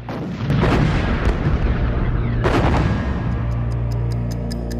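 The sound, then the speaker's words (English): Heavy cannon and tank fire explosions from black-and-white film footage boom out, two big blasts with thick rumbling between them, loud, before the roar fades under a steady, faint high ticking. “Black and white film showing thunderous cannon and tank fire explosions.”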